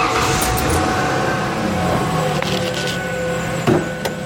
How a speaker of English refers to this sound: I'm going to start up the truck so you can hear it.